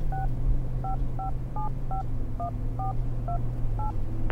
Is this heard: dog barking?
no